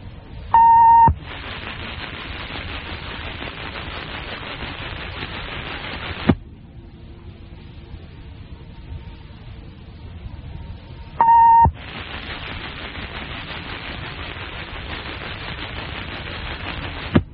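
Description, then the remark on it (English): A radio station's test of the Emergency Action Notification System: twice, a short electronic beep leads into about five seconds of loud, harsh, static-like buzzing, with a quieter hum between the two bursts and no talking. “For the next 60 seconds, this station will conduct a test of the emergency action notification system.”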